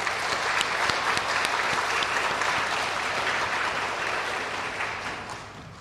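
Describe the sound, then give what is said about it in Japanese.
A church audience at a TCU Day morning worship service claps in steady, dense welcoming applause for a guest from TCU for about six seconds, a broad wash of overlapping hand claps that holds even before tapering slightly at the end, with no talking over it. “感謝とともに歓迎の拍手をいたしましょう。”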